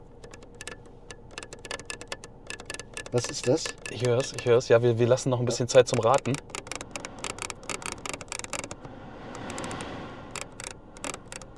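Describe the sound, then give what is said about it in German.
The rotary Smart Dial knobs of a brand-new Skoda Kodiaq being turned, giving a long run of small, crisp detent clicks in an uneven rhythm, with people talking over the middle stretch. “Wir haben gerade gedreht, erstens an den Smart Dials, pass auf, dass damit nicht so dran klatscht, ja, an den Smart Dials im Auto.”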